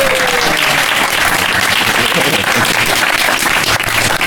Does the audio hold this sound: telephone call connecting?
no